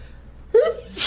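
A single sharp sneeze: a quick rising inhale followed by an explosive, breathy burst, with no talking alongside it.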